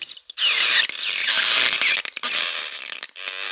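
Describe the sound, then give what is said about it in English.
A hot knife sizzles against water beads in a loud, harsh hiss full of crackles and creaky squeaks, breaking off briefly twice before surging back, with no voices. “For instance, I was amazed by the crazy sounds I got with the hot knife on water beads.”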